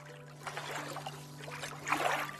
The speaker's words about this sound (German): Du gehst ein paar Schritte nach vorne und spürst die kleinen Wellen, die deine Füße umspülen.